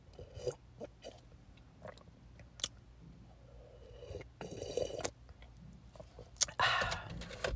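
sipping coffee

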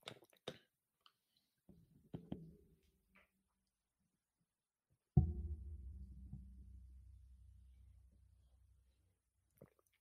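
sipping water

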